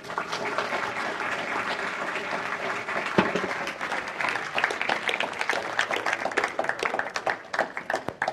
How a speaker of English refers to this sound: Just give the Lord a clap.